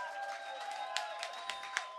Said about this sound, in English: So before we go any further, can we give a massive round of applause to Sound and Lights, please? To DJ, please.